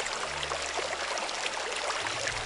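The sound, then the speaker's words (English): Steady rushing water, like a stream flowing continuously, with a dense even hiss and a faint low hum underneath, holding constant for the whole stretch with no voices. “Water.”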